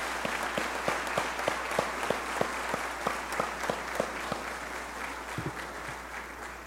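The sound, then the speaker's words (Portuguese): An audience at a session in a legislative house applauds steadily for people from the Northeast (nordestinos), with a few sharp, regular claps standing out over a continuous wash of clapping hands. No one speaks. “Então eu gostaria de uma salva de palmas para todos vocês nordestinos.”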